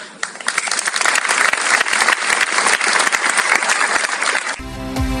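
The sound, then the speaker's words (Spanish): Attendees applaud steadily and loudly for several seconds after the mayor's thanks, closing a symbolic act in Plaza Mayor, a dense wash of many hands clapping, before it cuts off and a brief musical tone takes over at the end. “Un gracias del alcalde, seguido de los aplausos de los asistentes, han puesto el broche final a este acto simbólico en Plaza Mayor.”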